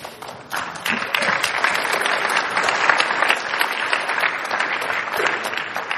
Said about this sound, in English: There, by the way, this is your applause line. We just built an MMO in less than 1 minute.